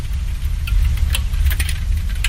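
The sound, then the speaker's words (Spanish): Ash falling after an eruption of the Etna volcano strikes the window glass of a house in Atzi in scattered, irregular light ticks and crackles, sometimes bunching into brief flurries, over a steady deep rumble. “Esto que golpea los cristales es la ceniza.”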